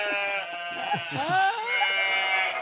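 goat bleating

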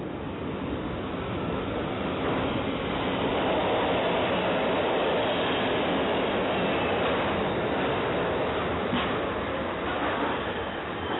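subway train

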